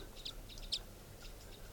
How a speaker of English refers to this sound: So recording, I've been walking down the road here near the campsite, and I happened to hear crossbills up in the treetops of the road.